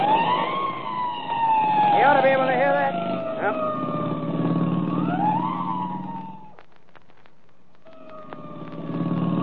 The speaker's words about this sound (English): All right. I'll give the siren all the way.